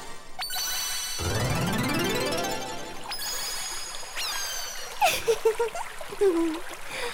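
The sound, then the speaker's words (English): Steady rushing water of a little waterfall, partly in the fairy world, coming down misty and sparkling into a little lake, runs beneath shimmering tones that sweep up and down, ending in a few bright chirping blips. No one speaks. “The way the water comes down all misty and sparkling and falls into the little lake.”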